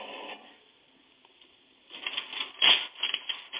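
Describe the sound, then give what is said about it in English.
A teletype machine printing: a brief burst of clatter, a quieter lull, then loud, dense mechanical chattering with one heavy clunk partway through. No one speaks. “What does the teletype have to say about the weather, Stumpy?”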